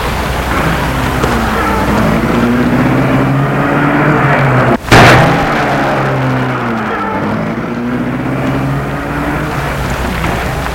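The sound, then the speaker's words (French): A car engine hums steadily throughout, and midway a single sharp slam of the driver shutting the car door cuts through before the motor continues rumbling as the car is started. No one speaks. “Le chauffeur ferme la portière, entre dans la voiture et la met en route.”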